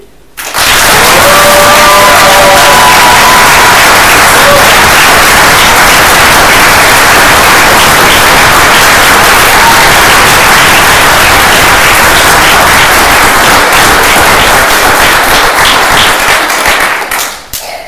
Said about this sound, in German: Und zwar der Applaus, der jetzt kommt, ist wirklich nur für euch, für das, was ihr bis jetzt schon richtig cool gemacht habt. Okay?